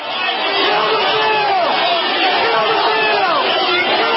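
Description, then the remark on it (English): A crowd of hundreds of people protesting against a bill shouts, many shouting "kill the bill!", with raised voices overlapping into a loud, continuous roar that holds steady for the whole stretch and has no single voice standing out. “They did record, however, hundreds of people expressing their dissent against a bill that the majority of Americans deeply opposed.”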